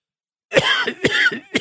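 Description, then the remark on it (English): A person coughs several times in quick succession, harsh bursts with a raspy, throaty quality, the last one slightly separated from the others. “Nothing like hot coffee to take care of a cough.”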